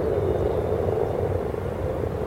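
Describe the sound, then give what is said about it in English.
A dense, continuous chorus of many frogs croaking together at a pond whose surface is covered with frog spawn, at about 11:30 in the morning, a steady low purring drone that stays loud and unbroken throughout, with no voices. “Lots of little pairs of eyes just poking up above the top of the water, and the surface of the pond is covered with frog spawn, and everywhere you look there are frogs.”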